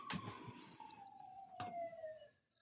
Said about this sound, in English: I see I hear a fire engine in the back,